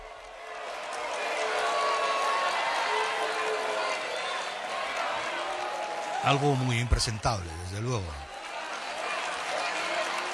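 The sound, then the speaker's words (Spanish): An audience of about 1,000 people in an auditorium on the outskirts of the city of Ávila boos and applauds at once as Zapatero appears on stage, a dense, steady roar of clapping and jeering voices. Partway through, a man speaks briefly over the noise, which continues to the end. “Abucheos que luego se solapaban o incluso ganaban los aplausos, como ustedes están escuchando.”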